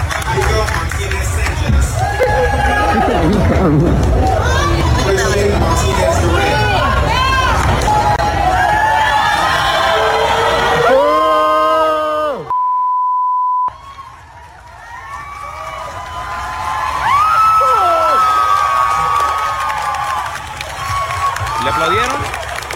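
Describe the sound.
A large graduation crowd roars with drawn-out booing and shouting voices as the principal refuses to hand a diploma to a graduate carrying a Mexican flag, cut by a brief steady beep, then the noisy crowd resumes with cheering and scattered applause for the student.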